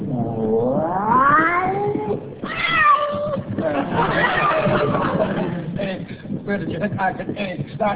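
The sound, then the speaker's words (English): A kitten's meows played slowed down, so each call becomes a long, deep, wavering wail, several of them running together loudly for the whole stretch. “That's a kitten slowed down.”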